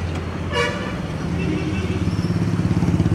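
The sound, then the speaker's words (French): A motorbike engine hums and throbs steadily while riding through dense traffic, with a short horn toot early on and the engine pulsing more roughly toward the end. “Concentre pas sur la moto parce que la circulation est déjà dense et puis c'est comme autant de petites fourmis qui il faut se faire un chemin.”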